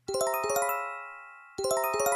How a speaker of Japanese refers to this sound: 防災無線でこのチャイムが鳴ったら緊急地震速報です。